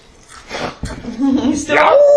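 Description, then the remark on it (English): A voice imitates the howl of a statue, starting with a low, wavering moan that climbs into a higher, sustained wail. It is fairly loud, with no other sounds around it. “The statue kind of makes a howling noise.”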